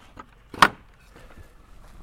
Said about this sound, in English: We have to keep stopping the truck to open up a series of gates that help keep the precious horses in place.